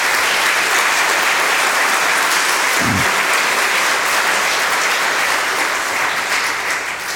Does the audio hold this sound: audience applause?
yes